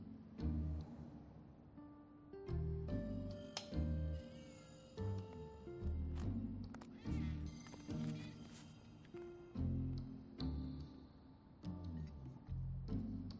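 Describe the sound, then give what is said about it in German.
A kitten meows repeatedly, high-pitched cries coming in quick succession over a steady, rhythmic low thumping backdrop; no one speaks. “Ich sag's euch, alles ist besser mit Kätzchen.”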